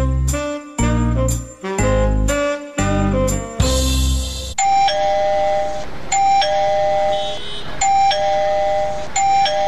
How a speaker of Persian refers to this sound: چی شده که باز دروازه را زنگ زده؟